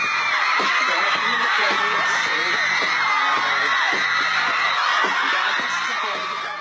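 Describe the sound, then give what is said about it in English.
A large crowd of teenagers screams and shrieks continuously at high pitch, loud and sustained throughout, with excited whoops and bits of laughter mixed into the roar, as fans in Times Square at MTV's TRL studio shriek for their favorite pop stars. “Screaming teenagers would pile into Times Square, either inside MTV's fishbowl-like studio or out on the street, shrieking for favorite pop stars and their videos.”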